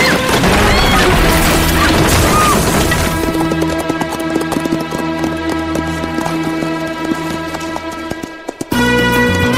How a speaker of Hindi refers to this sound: एक पहिए पर तांगा चलता हुआ सामने से हमारी ओर आता हुआ। बाएं से दाएं की ओर जाता हुआ तीन डाकू पीछे पीछे घोड़े पर। अचानक तांगा पलट गया।